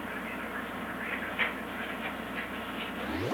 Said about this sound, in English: Helicopter out there, could we? Oh, that's awful noisy.